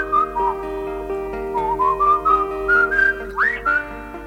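A bright whistled melody glides through sustained, sliding notes over a steady instrumental backing, with a quick upward flourish near the end, like a tune from an old pop record.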